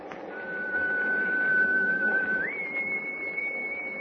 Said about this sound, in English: Gosh, that whistle is...